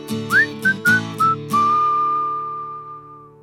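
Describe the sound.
A person whistles a short tune: four quick rising and steady notes, then one long held note that slowly fades, with low background music underneath.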